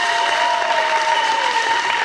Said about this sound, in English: I'm sorry, children's church. A big round of applause for children's church.